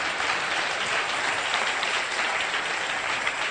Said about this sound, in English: You can clap unto the Lord.